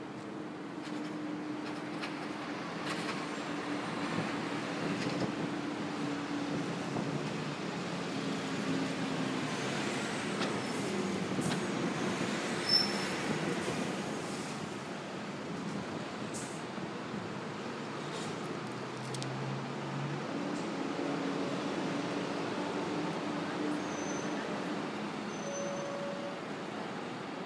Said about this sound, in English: As you can hear, it's a bit of a breezy morning. It's not too cold.